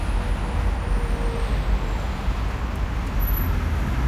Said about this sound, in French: Il y a une circulation juste impossible à cette heure-ci avec les embouteillages.